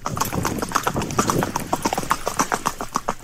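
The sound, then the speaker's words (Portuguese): Steady hoofbeats of a gaited horse moving in the smooth four-beat marcha gait, a quick even clip-clop rhythm over a background of low rumbling noise. “Vários temas aqui vão falar do marchador, e depois eu explico o que é marcha, embora o som de fundo, esse barulho característico de 4 tempos andado, que é muito confortável ao cavaleiro, é a marcha do cavalo.”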